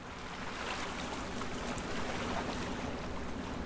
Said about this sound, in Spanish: En el muelle ya está lista la lancha que nos llevará hasta el corregimiento de Cacahual. Nos separan 65 kilómetros que vamos a recorrer en esta embarcación.